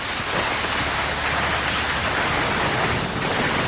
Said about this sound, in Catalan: No, és un trineu, exacte, grita com llisca. I, sí, sí, sí. Somiant aquell desplaçament amb trineu.